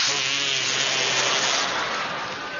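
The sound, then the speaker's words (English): A fake fart made by squeezing air under the arm: one long, buzzy, raspy blurt that holds steady for a couple of seconds before trailing off slightly, with no talking. “Or as we called it in New York, the artificial fart under the arm! There are a lot of ways to make the fart sound when you're a kid.”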